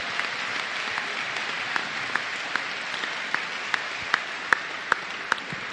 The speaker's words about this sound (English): Let's give all our coaches and players a well-deserved round of applause.